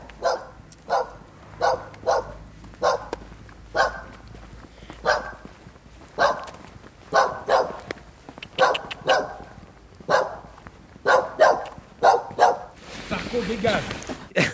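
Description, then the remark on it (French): Dogs bark repeatedly on a main street in sharp, fairly loud bursts, roughly one or two per second, keeping up a steady rhythm outdoors with faint street noise in the background. “On est sur la rue principale, il y a des chiens qui aboient.”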